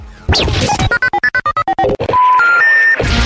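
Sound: telephone dialing tones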